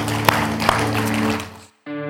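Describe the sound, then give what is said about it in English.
A church audience at Valley Metro Church gives the Lord a hand clap, a dense wash of applause that rings out for a moment over a steady musical drone, then cuts to brief silence before the music resumes alone. “Let's give the Lord a hand clap because he's good.”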